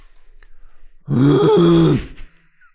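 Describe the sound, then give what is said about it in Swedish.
A man's voice imitates a moose call with a single loud, low, drawn-out groaning bellow that rises slightly in pitch and then falls, lasting about a second before trailing off. “Hur låter en älg?”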